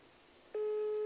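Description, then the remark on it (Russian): After a brief stretch of quiet background hiss, a steady telephone line tone cuts in abruptly and holds loud and unbroken to the end, with no voices, as someone places a phone call. “Сейчас я вам наберу.”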